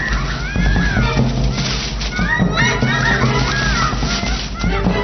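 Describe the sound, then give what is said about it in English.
A group of lemurs in Madagascar raises overlapping alarm calls at intruding rival lemurs, shrill wavering wails and yelps sweeping up and down in pitch, loud and continuous over a low, rumbling background with no talking. “The alarm sounds.”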